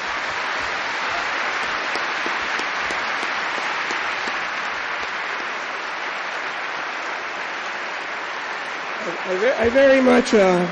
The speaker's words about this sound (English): I very much appreciate your applause for me. Thank you.